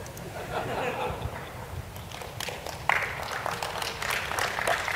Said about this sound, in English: And then let's switch over to your machine, and then get ready to applaud.